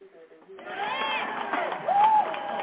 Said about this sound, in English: Any hand claps, applause, or anything?